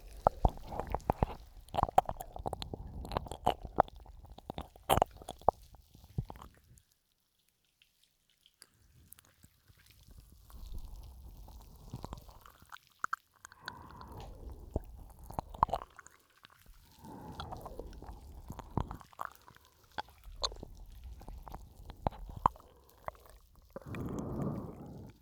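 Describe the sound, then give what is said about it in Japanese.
Slippery, wet squishing of skin generously coated in oil during an oil massage, coming in irregular sliding bursts of moist smacks and squelches, with a short silent pause early on and no talking. “オイルたっぷり塗ったおかげでツルツル滑っちゃうの。どうかな、癖になりそうじゃない？オイルマッサージ。”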